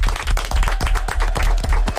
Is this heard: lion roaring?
no